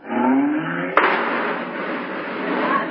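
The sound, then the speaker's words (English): A car engine revs with a rising whine as the car squeezes into a parking space that looks too small for it, then a sharp bump or crunch cuts in, followed by a steady noisy rumble as the car keeps moving. No one speaks. “Oh, look, there's a parking place. But Gracie, I don't think it's large enough for this car.”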